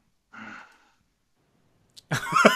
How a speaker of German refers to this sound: Ich höre ein Schnaufen aus der anderen Leitung.